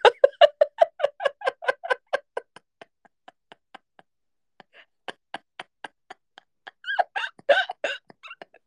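A stomach rumble heard as a rapid train of gurgling pops that slows and fades, then a brief louder burst of bubbling near the end, fairly quiet with no talking.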